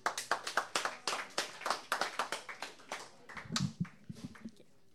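An audience applauds with a dense, steady patter of many hands clapping, loud at first, then thinning out into scattered claps by the end, with a brief murmur of voices partway through.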